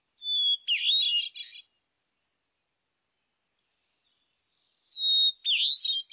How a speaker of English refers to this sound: The hermit thrush sings ethereal, paired phrases, long flute-like notes backed by complex, reedy phrases. Each is worthy of a long, silent pause in the woods. The Swainson's thrush. The veery. The hermit thrush.